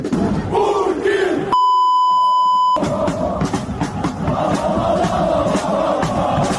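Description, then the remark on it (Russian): A large group of Ukrainian soldiers at a military parade rehearsal chants loudly in unison a well-known chant about Putin, their rhythmic shouting briefly cut by a steady, high electronic bleep about a second long before the chant resumes and carries on. “Поддержал украинских солдат, когда те исполнили известную кричалку про Путина на репетиции военного парада.”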